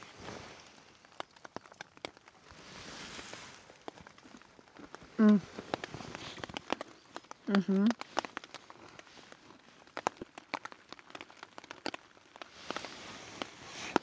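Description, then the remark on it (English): Steady patter of rain on a hard surface, with scattered sharp drips and what sound like footsteps, plus a couple of brief vocal sounds from someone. “I need to get used to the rain.”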